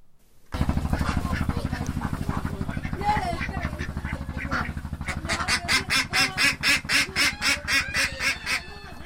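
A flock of ducks in a coop on a floating farm made of bamboo and empty oil drums, attached to a river bank near the village of Charbungara, quacks busily while a woman gathers their eggs; the calls become a steady, rapid series of loud quacks toward the end, over a constant low rumbling hum.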